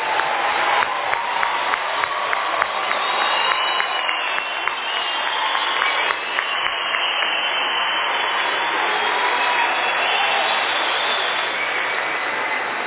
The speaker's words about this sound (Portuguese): Queria também começar pedindo para que se levante todos os formandos pelo SENAI, que estão de camisa vermelha, se eu não me engano. E quero que nós todos demos uma salva de palmas para eles.